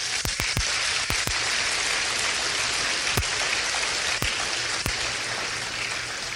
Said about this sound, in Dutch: Je mag de Heer een applaus geven.